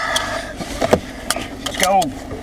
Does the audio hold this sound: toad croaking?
no